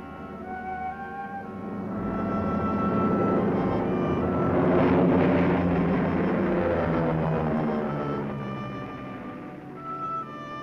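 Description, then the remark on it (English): An airplane's engines roar as it takes off, the rumbling whine swelling to a loud peak midway and then fading away, with no voices present. “Plane ought to be taking off about now.”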